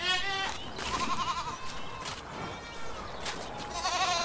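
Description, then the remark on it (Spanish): One sheep and two lambs bleat repeatedly, several overlapping calls rising and falling, with harmonic wavering cries through most of the few seconds and no talking. “La oveja viene exuberante y de urbes llenas. Los corderitos, jubilosos, como dos picaruelos.”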